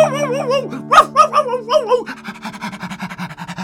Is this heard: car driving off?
no